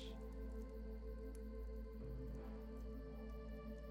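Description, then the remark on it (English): Soft, wet squishing of lotion worked between hands, continuous, with a few slicker smacks over a steady low background hum. “I pour more potion into my hands and continue with my gentle touch.”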